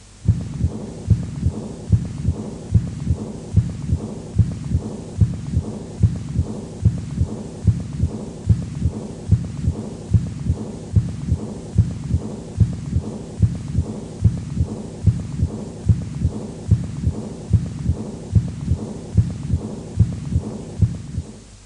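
A steady heartbeat recorded through a stethoscope at the Botkin-Erb auscultation point, about seventy beats a minute, with a soft, faint blowing diastolic murmur, from blood flowing back from the aorta into the left ventricle, following the beats under a low hum. No voices.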